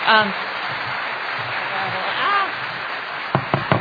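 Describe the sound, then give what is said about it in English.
An audience at a town meeting applauds in a dense, steady patter, with voices murmuring underneath. The clapping fades into a few sharp, separate claps at the end. “No clapping, no audible reactions.”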